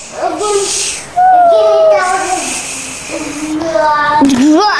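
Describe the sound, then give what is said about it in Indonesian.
A child makes a sustained airplane noise with their voice, a breathy, whooshing hum that rises and dips in pitch across several long, fairly loud stretches. “Kayak bunyi pesawat terbang.”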